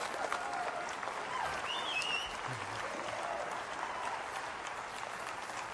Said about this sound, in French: Que ceux qui aiment Dieu disent amen dans ce lieu ce matin. Applaudissez celui que vous aimez.